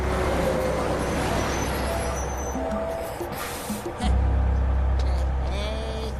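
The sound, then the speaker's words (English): A large bus rumbles, its engine droning steadily as it drives around the block, then a hiss of air brakes as it pulls up in front of Dr. Girlfriend and settles into a deep, loud idle. “The bus drives around the block and stops in front of Dr.”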